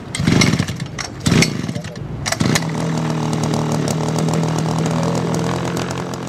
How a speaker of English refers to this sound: Just outside a warehouse in the city of Guayaquil, a member of Ecuador's National Health Service tests a pesticide spraying machine.